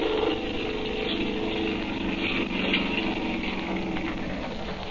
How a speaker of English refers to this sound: He's hauling him up into the boat. Now he's starting the motor up. He's turning around the boat, and here he comes.